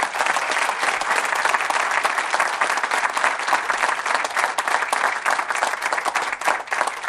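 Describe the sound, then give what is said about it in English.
A crowd breaks into sustained applause for Ascend Elements and its announcement, a dense, steady wash of many hands clapping at once, holding an even loudness for several seconds with no voices standing out. “But I do think we need to give this Ascend Elements and this announcement today another big round of applause, shall we?”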